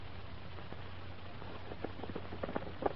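Quiet hoofbeats of a horse pulling a sulky clop in a steady trotting rhythm around a track, over a low constant hum. The hooves grow a little louder and sharper toward the end. No voices are heard.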